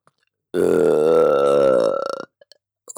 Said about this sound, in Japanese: またゲップが出てきて。